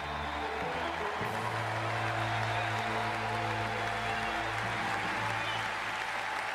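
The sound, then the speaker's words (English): Sustained applause from a large audience welcoming Colonel Eileen Collins, a steady wash of clapping that stays loud and even throughout, with a low tonal hum underneath and no clear speech. “Big of them to applaud her, to even though she's a woman and a government employee.”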